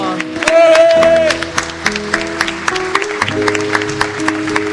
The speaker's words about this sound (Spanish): ¡Fuerte ese aplauso!